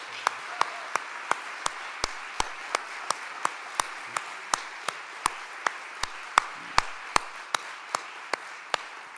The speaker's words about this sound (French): j'aimerais qu'on prenne 2 minutes pour les applaudir et les remercier, parce que voilà. Bravo.